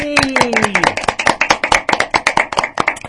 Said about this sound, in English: And applause, please.